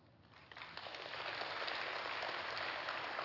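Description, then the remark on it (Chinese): Audience applause for a farewell address starts lightly and swells within half a second into a steady, dense clatter of many hands clapping, holding at an even level to the end with no voices. “我没有好像中国的领导人演讲一般停一下就鼓掌，我没有这个意思啊，谢谢你们的鼓掌，谢谢谢谢。”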